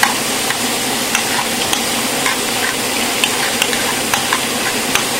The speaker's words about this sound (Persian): تقریباً سی الی چهل ثانیه که همش بزنید. بعد همه جای قابلمه‌تون رو هم بزنید که این با پیازتون کاملا مخلوط بشه.